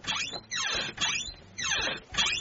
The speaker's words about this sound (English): my son's door is really squeaky